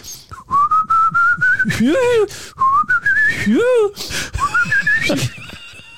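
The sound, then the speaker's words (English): Breathy human whistling in three slowly rising phrases, each ending in a quick downward-then-upward swoop, with audible breaths between them. “And as sure as God, I was whistling while I was making love.”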